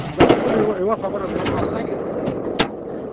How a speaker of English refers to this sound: Nearby, an Afghan guerrilla fires a cannon at the summit of the mountain.